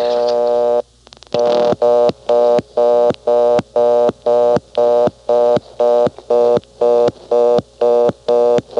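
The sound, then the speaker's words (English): A steady telephone dial tone breaks off as a 3 is dialed as the first digit, giving a brief burst of dialing clicks, then a loud, evenly pulsed error tone beeps rapidly over and over until the end, since no valid number begins with 3. “Here's what happens if you pick up the phone and dial a 3.”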